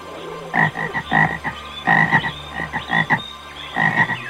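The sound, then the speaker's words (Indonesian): A chorus of frogs in a pond croaks in rapid, overlapping bursts, very loud, with pulsing calls repeating continuously in clusters without stopping and no talking. “Anak-anak, dalam perjalanannya, Monkey heran melihat dan mendengar sekumpulan katak bernyanyi tanpa henti di suatu kolam.”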